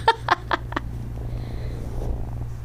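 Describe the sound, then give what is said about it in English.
A female kitten from a pet adoption center purrs close to the microphone in a steady, low continuous rumble, with a few quick bumps and rustles near the start as she chews on the microphone. “I don't think the purring probably is making it to the microphone, but she's such a sweet kitten.”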